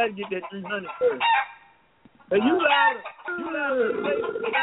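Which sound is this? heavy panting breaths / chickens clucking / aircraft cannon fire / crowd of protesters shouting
chickens clucking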